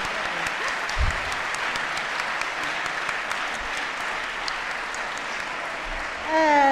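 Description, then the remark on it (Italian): Sustained audience applause welcoming author Simonetta Agnella Orbi at a book event, a dense steady wash of many hands clapping at an even loudness, with a few sharper claps standing out and a brief low thump near the start. “E fatele un applauso fantastico.”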